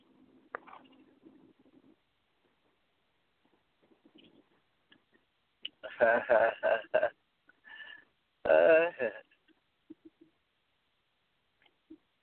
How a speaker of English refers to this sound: Somebody beeping in. Hold on. I'm getting a bunch of texts. You didn't need to hear texts.